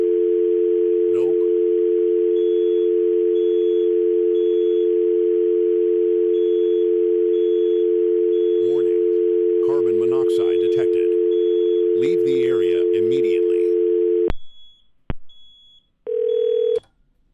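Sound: telephone dial tone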